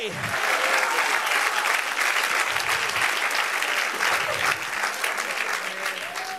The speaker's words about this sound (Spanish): Padre, un aplauso al Señor.